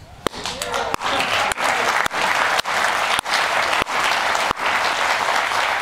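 A studio audience breaks into loud, sustained applause, a dense wash of many hands clapping that holds steady for about six seconds, broken by a few brief, sharp dips.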